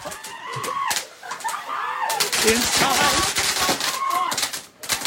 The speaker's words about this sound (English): Somehow there was confusion that the candles they put on this German birthday cake weren't candles. Oh, they had a wick you could light, but they weren't candles. They were fireworks.